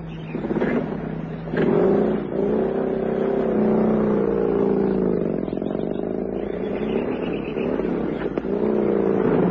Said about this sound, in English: The car coming up now from behind us.